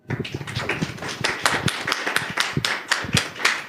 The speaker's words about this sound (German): Und ich übergebe direkt das Mikro an dich und das ist dein Applaus.